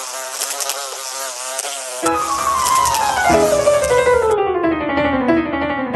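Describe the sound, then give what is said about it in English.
Flies buzzing loudly and continuously, a dense whining drone whose pitch slides downward over several seconds as the insect hum thickens into a lower, rougher buzz, with no talking. “Wouldn't it be wonderful if your horse could enjoy a zone of repellency from pesky flies?”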